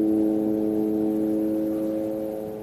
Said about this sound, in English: This is the continuous sound of the drones. We hear it day and night, and they are reconnaissance and surveillance planes and carry bullets inside it when it set a specific target.